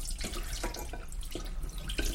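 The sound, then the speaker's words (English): Sloshing and swishing of water as a hand swirls pre-soaked rice around in a bowl, with soft rhythmic splashes and trickles and no talking. “And I'm going to do one more swirl just because it's very satisfying to do that. I do it with hand.”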